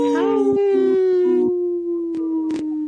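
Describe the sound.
Several people on a radio show howl together in imitation of wolves for the sponsor Howling for Wolves, a long sustained wavering tone with layered pitches, holding steady for nearly three seconds with a couple of short breathy bursts near the end.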